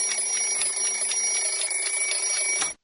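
A children's alarm clock rings loudly and continuously, buzzing steadily for a few seconds with a rapid metallic rattle, then stops abruptly.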